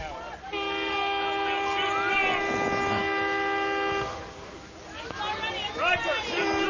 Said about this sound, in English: And train whistle going by. Try to get the Washington County kids used to when they get to play at Fireman's.